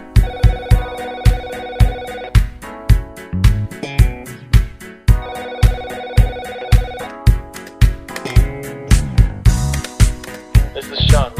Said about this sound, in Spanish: No es que no suene el teléfono, es que es del disco.